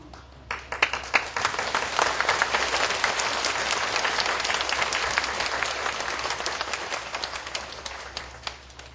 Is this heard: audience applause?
yes